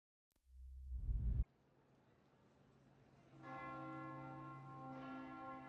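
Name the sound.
bell tolling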